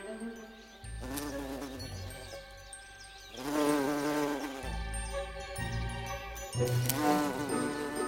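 A bumblebee buzzes loudly as it flies from flower to flower foraging, its low droning hum rising and falling in pitch as it moves, with brief swells around flowers and no voices present.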